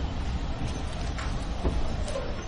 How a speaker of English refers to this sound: Oh, there's my train.